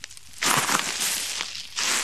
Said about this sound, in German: Und wie ihr hört an meinen Schritten, befinden wir uns in einem Waldlaub.